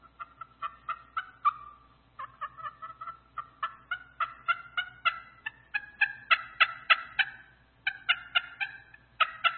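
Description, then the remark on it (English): A slate turkey call worked in quick runs of sharp, yelping cuts with rattling purrs between them, high and raspy, loud and continuous with a few brief pauses, no talking. “So that's a turkey call. And a slate call.”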